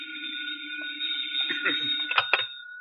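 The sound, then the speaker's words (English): A telephone rings with a steady, shrill, unbroken tone over a low hum, while muffled voices and a few sharp knocks come in during the second half. “Well, I guess I'll go... phone.”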